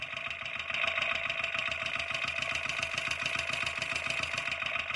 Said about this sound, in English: I'm going to turn the gas on. And I'm going to move my mic around to hear parts of the engine.